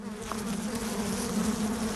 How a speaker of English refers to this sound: And when we first played the bee sounds, the elephants stopped immediately what they were doing, turned around to the speaker, and they started turning their heads from side to side with their ears out, their trunks up, trying to smell,